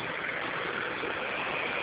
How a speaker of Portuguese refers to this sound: Tá maior barulho aqui, tá passando muito carro.